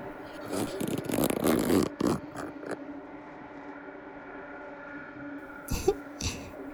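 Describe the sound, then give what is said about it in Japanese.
A raspy zipping sound of a zipper being pulled down in a couple of quick bursts, followed by a few soft rustles and a short scrape near the end against a quiet background. “チャック、下ろしますね。”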